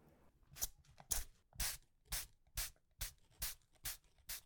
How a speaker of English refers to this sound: Let's get out the spray butter, because my ass can't afford regular butter.